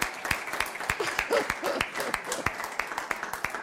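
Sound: audience clapping applause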